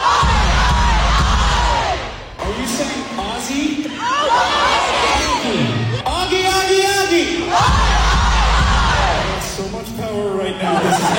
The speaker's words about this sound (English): This dude in the crowd went, "Oggy, oggy, oggy," and I was like, what do I do now?